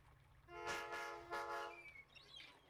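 A train horn blares in a long, steady harmonic tone over the rumble of a passing train, with bursts of rushing wheel noise swelling and fading.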